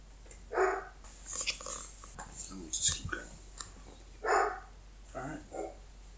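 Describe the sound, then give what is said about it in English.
Excited dogs bark in the background: a few short, scattered yelps spaced a second or so apart, fairly faint, with soft clicks and rustling between them. “Yes, those are the dogs celebrating in the background.”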